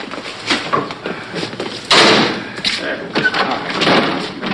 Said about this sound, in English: Oh, I banged my knee when I tripped over that alligator.